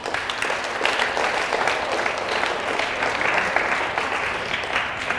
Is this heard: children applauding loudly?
yes